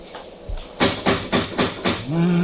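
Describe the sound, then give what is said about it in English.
A tower clock strikes five times at night in wind and rain, in quick, evenly spaced metallic blows, each loud and ringing briefly, followed by a low sustained tone as the strikes end. “Well, right on time, according to the clock in the tower. Not very cheerful sounding, is it?”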